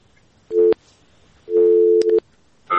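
A telephone busy tone after a listener's call to a phone-in program drops: loud, steady low-pitched beeps in uneven bursts, broken by sharp clicks, with a higher tone starting at the end. No one speaks.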